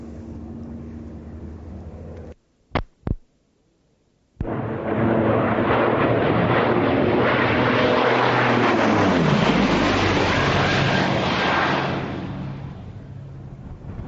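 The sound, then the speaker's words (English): A Lockheed P-38 Lightning propeller fighter plane roars loudly past, its engine drone dropping in pitch as it goes by, after a short break of silence broken by two sharp clicks. “that's the Lockheed Lightning P-38 flying past again.”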